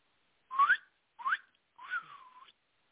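A person whistles three short tuneful notes, the first two quick rising chirps and the last a longer sliding tone, clear with no talking.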